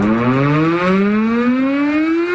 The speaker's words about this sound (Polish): Czyli na przykład, że ogłoszenie alarmu to modulowany dźwięk syreny trwający 3 minuty, a jego odwołanie to ciągły dźwięk syreny, także trwający 3 minuty.